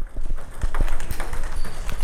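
A ping pong ball bouncing across a table during a USC table tennis club practice, with squeaky sneakers: a quick, irregular run of sharp, hollow clicks over a steady wash of background noise.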